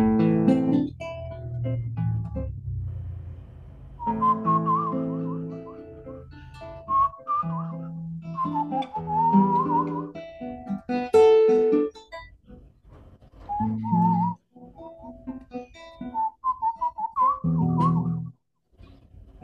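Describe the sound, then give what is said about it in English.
A person whistles a lively, ornamented melody with quick trills and warbles, fairly loud, pausing briefly between phrases, with no talking; the whistling is used as a special effect in a vocal performance. “I do these things quite a lot, not only because of singing itself, but I'm using whistling as well for some special effects, like.”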